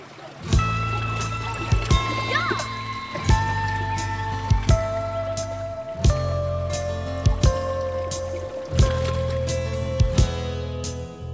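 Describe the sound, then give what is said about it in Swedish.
Salt seawater laps against a hull in regular slaps about every second, over a steady low droning hum, at Styrsö in Gothenburg's southern archipelago. No one speaks. “Salta vatten. Saltvatten och... frisk luft.”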